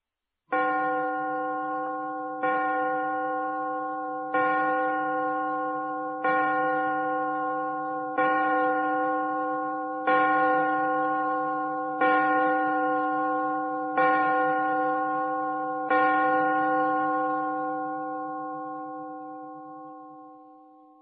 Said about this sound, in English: Look at the clock. Listen to the clock.